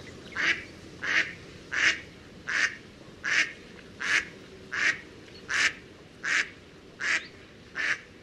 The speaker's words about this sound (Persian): صدای مرغابی بود. آفرین، درست گفتی. صدای مرغابی بود که در داخل آب دست و پای می زد.